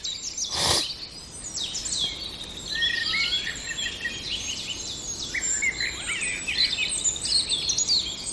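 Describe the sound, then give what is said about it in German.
A male common blackbird, one of a breeding pair, sings a varied run of whistled phrases and chirps, including an imitation of a linnet, continuous over a soft outdoor hiss, with a brief thump near the start; no one speaks. “Die Amsel, aber ich glaube, er kommt gleich in Fahrt.”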